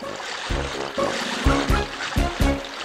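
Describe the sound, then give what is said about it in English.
Oars dip and splash through water as Paro rows a boat toward the jungle, several strokes about every half second in a steady rhythm over a continuous watery wash, with no voices. “Paro starts to row a boat.”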